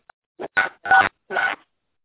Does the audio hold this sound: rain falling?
no